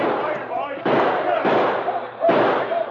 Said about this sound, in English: Kendall and his men blasted away. But suddenly, they heard shots behind them.